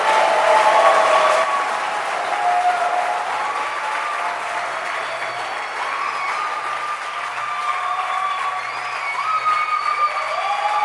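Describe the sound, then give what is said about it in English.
An audience in church claps their hands in a dense, steady burst of applause that holds for about eleven seconds, loudest at the start, with a few voices faintly rising over the clapping. “Then tell the person to prove it by clapping his or her hands.”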